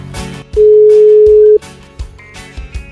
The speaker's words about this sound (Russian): И прямо сейчас мы в прямом эфире позвоним кому-то из жителей города на Неве. Итак, набираем номер телефона.